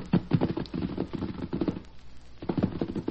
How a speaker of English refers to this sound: See the way those horses are greeting each other? Yeah. golly. Well, that smaller white horse is the son of Silver.